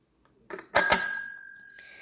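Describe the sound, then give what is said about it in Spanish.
A small bell is struck twice in quick succession, bright, its clear metallic ring sustaining and slowly fading afterward, with no voices. “Hoy toqué el timbre porque el retorno es breve y el tiempo he decidido que sea así.”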